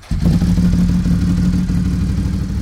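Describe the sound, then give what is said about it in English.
A vintage-style cafe racer motorcycle engine roars to life and holds a loud, throaty rumble with a gritty, aggressive bark as it comes into the power band, steady for a couple of seconds with no talking. “It has a very aggressive bark to it once you come into the meaty power band, if you will.”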